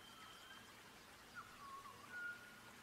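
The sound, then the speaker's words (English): Faint birds chirp in a few short whistled notes midway through, over a soft, steady wash of waves and water. No one speaks. “Listen to the sounds. The sounds of waves, the waters, these birds, these surroundings.”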